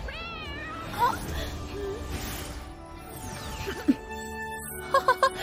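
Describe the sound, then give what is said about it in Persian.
A cat gives a clear, drawn-out meow, followed by a murky stretch of background noise and a few short, sharp clicks toward the end. “وای نه، دارم میام پیشی.”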